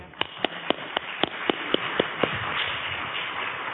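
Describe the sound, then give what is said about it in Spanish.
Brief, thin audience applause for a speaker at a course: a run of about nine sharp, evenly spaced claps at a steady quick pace, fading out into a soft background hiss with no talking. “Os dejo con ella y os pido un aplauso para ella.”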